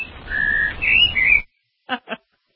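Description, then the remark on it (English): A warbling, whistled bird tweet rises and dips for about a second and a half, then two quick chirps follow after a brief pause, fairly loud with no talking. “That sounds like a drunken parrot or parakeet.”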